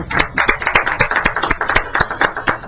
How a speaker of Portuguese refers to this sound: Olha, eu vou pedir a plateia para dar a salva de palmas.